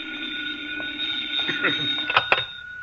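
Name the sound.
telephone ringing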